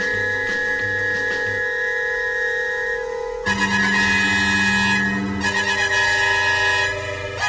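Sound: bus horn honking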